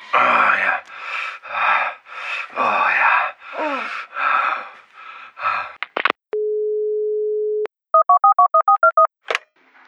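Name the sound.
telephone dial tone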